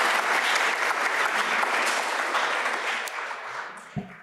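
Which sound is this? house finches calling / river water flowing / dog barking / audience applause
audience applause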